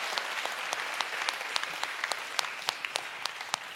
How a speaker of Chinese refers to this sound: 拍手把荣耀归给主。